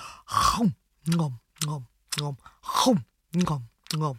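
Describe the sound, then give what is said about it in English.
A voice imitates the Billy Goats Gruff munching grass in their field with seven quick, voiced chomping sounds in an uneven rhythm, fairly loud, with no other talking. “And they so enjoyed to spend their days munching the grass like this.”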